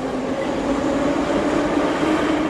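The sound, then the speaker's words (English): A subway train rumbles steadily through an underground subway station in Moscow, a loud, continuous roar with a sustained mechanical hum and faint rail noise, no voices. “And in Moscow, to underground subway stations like this one.”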